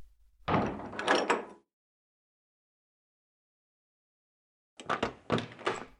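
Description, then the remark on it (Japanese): A door is shut abruptly, with a clattering rush of loud knocks and rattles, then after a few seconds of silence a second similar burst of door noise follows. No one speaks. “もう、なんで急にドア閉めちゃうの？”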